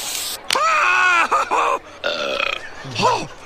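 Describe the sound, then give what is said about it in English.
The cartoon character Barney lets out a series of loud, drawn-out burps, croaky and gurgling, with brief pauses between them and no talking. “One of two times Barney is Mace and then burps.”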